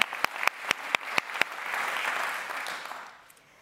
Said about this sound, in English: so he won't be in the room, but let's still applaud him.